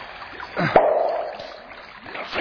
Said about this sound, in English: It sounds like bubbling down there. Oh, God, the water is pouring out. Can't get the cork back.